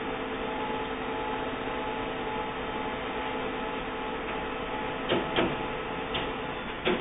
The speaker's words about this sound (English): Test page successfully sent to printer. The light is flashing. Printer comes on.